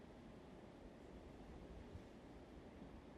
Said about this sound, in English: just like watching the waves on the sea rise and fall, especially here on the Brack, on the southeast side of the island. They're calm waves.